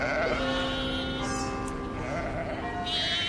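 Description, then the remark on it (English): Several sheep from the Lake District bleat at once in Farmer Sharp's Sheep Drive across the Millennium Bridge in London, their wavering, overlapping calls filling the whole stretch loudly, like a flock milling together. “Farmer Sharp's Sheep Drive will cross the bridge at 10:40 a.m. on Saturday.”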